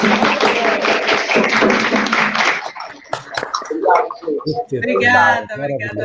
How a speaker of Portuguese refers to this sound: Aplausos!